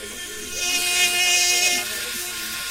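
A surgical cordless bone drill, shaped somewhat like a saw and used in orthopedics, whirs steadily, a high-pitched motor whine with a hissing edge that rises slightly in the middle and runs for the whole moment without talk.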